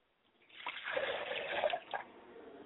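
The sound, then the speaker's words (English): Water is poured into a glass as an offering to a father's spirit, in a short, steady stream, with a bright gurgling fill that rises in pitch. It is moderately quiet, with no voices. “I'd like to pour a glass of water for my father's spirit and say, Father, come and drink well.”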